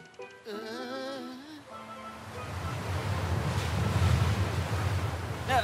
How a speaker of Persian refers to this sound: دست نگهدار کوکو، جریان آب داره ما رو میبره